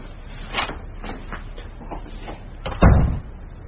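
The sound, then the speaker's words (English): An office door opens with a few soft handle clicks and rattles, then a single solid thump as it swings against its stop. “this is my office. Does this door mean nothing to you?”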